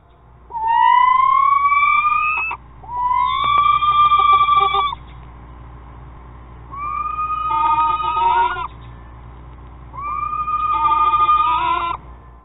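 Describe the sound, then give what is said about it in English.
A screech owl, a small nocturnal predatory bird, gives four drawn-out, quavering screeches, each rising and wavering before trailing off, separated by short pauses. The calls are loud against a faint background hum. “a small, nocturnal predatory bird known as the screech owl.”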